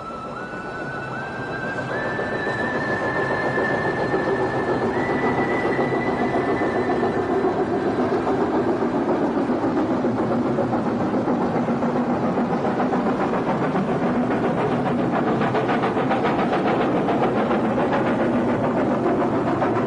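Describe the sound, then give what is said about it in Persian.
A passenger train on a new railway line rumbles steadily along the rails, a continuous loud mechanical roar with rising tonal whine early on and dense rhythmic clatter throughout, with no voices. “عشایر هرچه که نیاز دارند باید با اسب و شتر از طوفان بیاورند، سفری که بیش از یک هفته به طول می انجامد، ولی با قطار فقط 4 ساعت کافی است.”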